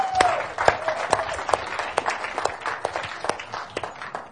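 An audience claps steadily for several seconds, a dense patter of many hands with sharp individual claps standing out, moderately loud and without speech over it.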